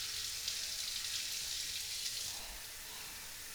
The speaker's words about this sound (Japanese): じゃあシャワーで流しますね。シャワーで流さないとおちんちんは私のよだれまみれですよ。